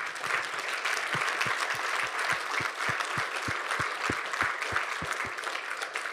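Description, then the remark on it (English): An audience applauds the boys and girls steadily for several seconds, a dense wash of many hands clapping, with a regular low thumping beat running through it like rhythmic claps or stomps. “Let's give the boys and girls another round of applause.”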